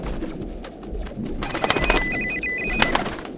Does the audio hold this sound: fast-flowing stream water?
no